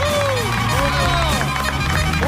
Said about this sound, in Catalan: A Catalunya Ràdio, Gerard Jubany es converteix en l'home del bar. Vinga, bon aplaudiment pel Gerard Jubany. Bravo!